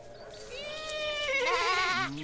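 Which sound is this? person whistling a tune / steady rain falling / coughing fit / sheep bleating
sheep bleating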